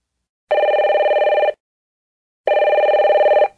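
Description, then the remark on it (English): A telephone rings twice, each trilling ring lasting about a second with a pause of silence between them. The rings are loud, with no voices present. “why didn't you pick up the phone? I kept calling you.”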